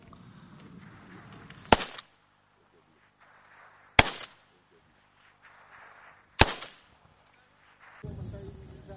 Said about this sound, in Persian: نیروهایی که تحرکات شبه نظامیان را رصد می کنند و گاهی با دیدن حرکتی به سمت آن شلیک می کنند.